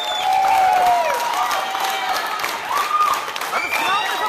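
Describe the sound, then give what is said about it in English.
A large crowd of supporters at an election-results gathering in a hotel in Reykjavik, Iceland, with green balloons, claps together steadily and loudly, with cheers and a few shrill whistles rising over the dense, continuous applause. “Green balloons, everyone clapping in unison.”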